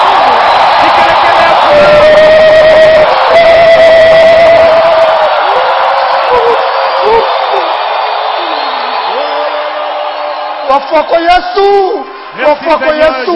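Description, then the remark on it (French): A large crowd in Lubumbashi erupts in loud, sustained shouts and cries of joy to God, a dense wall of voices that gradually thins toward the end into scattered individual yells and whoops. “Poussez vers Dieu des cris de joie.”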